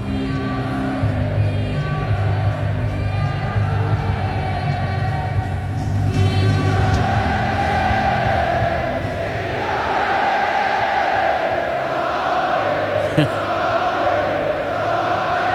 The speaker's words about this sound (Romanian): Și avem așa un scurt fragment din ce se cântă la rugby. Să ne spuneți voi așa dacă nu vi se face pielea de găină când îi ascultați.